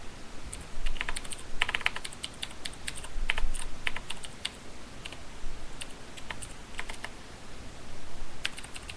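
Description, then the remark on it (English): Rapid, uneven clicking of keys on a DOS computer keyboard with unlabeled keys, typed with two fingers, fairly clear, with short bursts and brief pauses like someone typing quickly while signing in. No voices are heard. “My boyfriend has a DOS keyboard that has no keys on it, and I type with two fingers, but I'm really fast, so without being able to see where the first two keys are, it makes it slower.”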